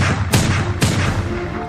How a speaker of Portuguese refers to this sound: Membro de uma facção criminosa pegou só 17 tiros nos peitos. Foi pá, pá, pá, pá, pá, pá.